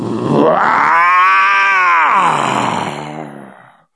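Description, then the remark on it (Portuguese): A single long, loud lion roar, rising into a rich harmonic bellow and slowly fading into a groaning tail over about four seconds, unaccompanied. “Dizem que é muito barulhento à noite na selva africana, mas dizem que quando o leão sai para caçar, o leãozão, que ele dá aquela rugida.”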